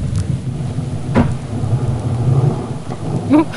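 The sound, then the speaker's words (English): A male harbor seal in Glacier Bay growls in a deep, rumbling, burp-like drone that runs throughout, swelling with a couple of louder guttural bursts near the start and end. No one speaks. “It's actually a male harbor seal. They make kind of this growling sound.”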